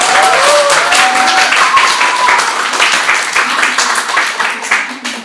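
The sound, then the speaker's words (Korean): A church audience breaks into sustained, loud applause to thank a pastor, many hands clapping densely and steadily across the room, with a few faint voices mixed in before the clapping starts to taper off. “박수 한 번 더 크게.”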